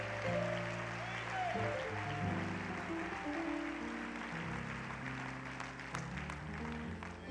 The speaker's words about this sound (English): Why don't you give him a great hand clap of appreciation tonight? He's the only one worthy.